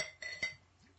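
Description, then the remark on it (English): Two quick glass clinks about a quarter second apart as a drink is poured, each leaving a bright ringing tone that fades out, quiet with no talking. “Yeah, I'm going to pour mine, dude. That's my glass.”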